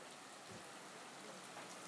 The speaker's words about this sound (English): Listen to this rain. It keeps coming a bit harder than this.